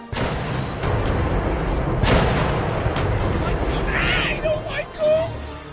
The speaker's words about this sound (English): Look there, mateys! The great ghost ship fires ghost cannons!